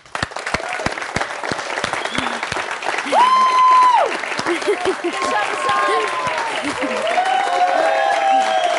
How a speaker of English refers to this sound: From right here, home in the United States of America, everyone give a big round of applause